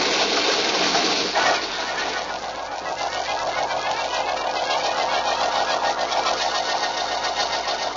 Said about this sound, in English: Vance and Malcolm are getting into this car. On with the starter now. Here we go.